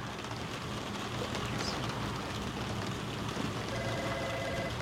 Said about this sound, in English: I actually sleep better when it's raining.